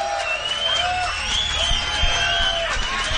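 A crowd cheers and applauds steadily, with high whoops and shrill whistles rising and falling over a dense wash of clapping, loud and unbroken for the whole stretch.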